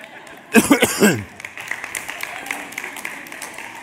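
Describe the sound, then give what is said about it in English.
A short burst of coughing from a speaker rises up near the start, followed by scattered, fairly soft applause and crowd noise from the audience that lingers to the end. “And I said, I'm going to tell people every time I cough, you're supposed to applaud.”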